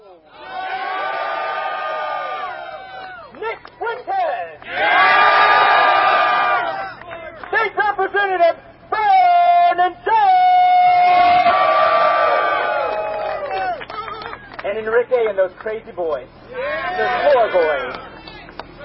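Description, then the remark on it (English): A massive rally crowd, heard on a live feed, cheering and shouting, loud and sustained, rising in dense waves of voices with brief dips between surges, and chant-like calls rising above the roar. “But look at this massive crowd here, guys. Let's go back live to this feed.”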